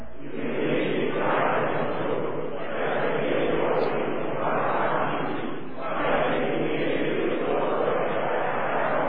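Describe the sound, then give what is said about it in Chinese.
A standing church audience shouts praise to the Lord together, a loud, continuous wall of many voices that swells and dips briefly a couple of times over about nine seconds. “第三页的所在，全体拢着向上主欢呼。”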